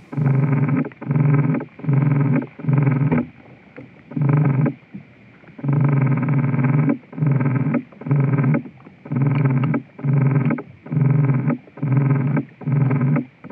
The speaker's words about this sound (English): You are listening to the sound of insects communicating. These recordings were made in a meadow on Deer Isle, Maine, using vibrational sensors known as contact microphones.